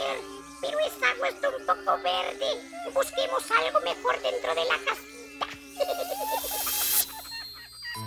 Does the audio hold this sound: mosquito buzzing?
yes